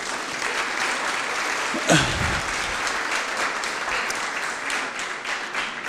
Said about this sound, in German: So, Applaus